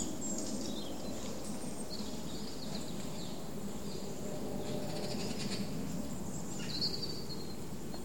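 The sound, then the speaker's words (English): Green parakeets give harsh, high chattering calls on and off over a constant busy hiss of rustling and background noise, with no one speaking. “That's a green parakeet.”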